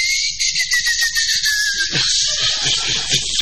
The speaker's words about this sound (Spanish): No, tengo presión ocular. Chiflo por el ojo.